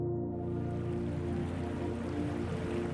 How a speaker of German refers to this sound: Steig nur hinein. Es blubbert und brodelt wie in einem riesigen Kessel. Die wilden Blasen geben den Rhythmus an und übertönen alles und jeden um uns herum.